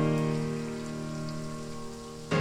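rain falling

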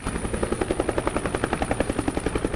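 helicopter flying

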